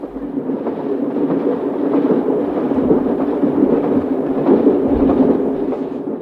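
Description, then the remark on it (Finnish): A train rolls steadily along its rails in midsummer daylight, a continuous rumble with faint rhythmic clatter, loud and even throughout, with no voices. “tuosta maisemasta, joka nyt junan ikkunasta sydänkesän valossa koettaa vakuuttaa, että kaikki on hyvin, rauhallista ja oikein.”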